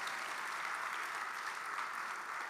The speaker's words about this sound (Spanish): Yo quisiera que pudieras aplaudir por eso, porque es una gran promesa de parte de nuestro Dios.